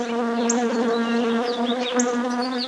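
Bees buzz steadily, a continuous droning hum that wavers slightly in pitch, with a few faint higher chirps above it. No one speaks.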